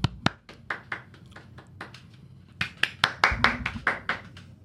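A few people clap in a loose, uneven patter of sharp smacks that grows louder and denser toward the end. No one speaks.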